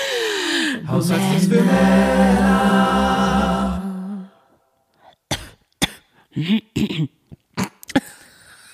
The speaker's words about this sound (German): Klingst du dann so alt, wenn du dann so hustest und so schnupfst?